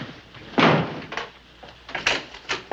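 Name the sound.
door bursting open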